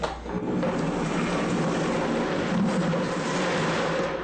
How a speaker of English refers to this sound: I'm going to use the blender. Start this blending.